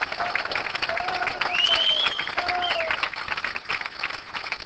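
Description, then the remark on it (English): A large audience applauds steadily for several seconds for members of a $25,000 achievers club, a dense wash of clapping with a couple of whistles cutting through. No one speaks. “Give another big round of applause.”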